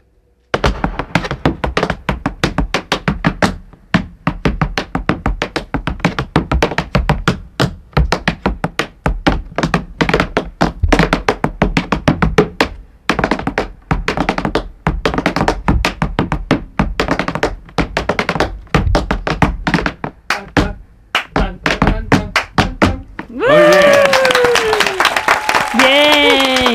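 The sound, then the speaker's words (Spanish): Tap dancing without music: a long, loud flurry of sharp shoe clicks and stomps in fast, shifting rhythms, followed at the end by applause and cheering voices. “El claqué parte de eso.”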